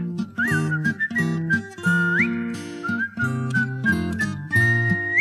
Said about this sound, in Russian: Он знаменитый был артист, играл он на гитаре, и был художественный свист в его репертуаре.